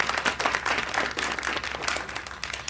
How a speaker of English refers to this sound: Everyone give her a round of applause for good luck.